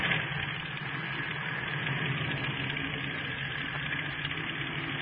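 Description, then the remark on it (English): A steady airplane engine drones without a break, a dense low rumble with a rough, vibrating hum that holds at an even loudness throughout. No one speaks. “Is that our plane?”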